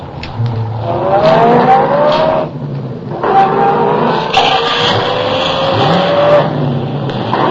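car accelerating hard

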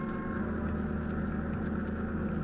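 boat engines running

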